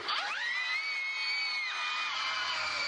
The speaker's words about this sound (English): And all the children would scream!